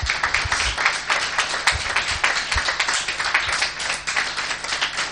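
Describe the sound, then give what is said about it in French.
A crowd applauds steadily, a dense, continuous patter of many hands clapping together for about five seconds, fairly loud, with no one speaking over it; the applause is for the gift of a well. “Ça, c'est magnifique, on peut applaudir.”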